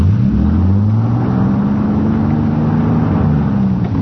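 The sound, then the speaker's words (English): A car engine revs hard while the car, shoved into reverse, is stuck and not moving on a canyon road: a loud, continuous low drone whose pitch swells and wavers over several seconds without fading. No voices. “We were stuck, hopelessly stuck.”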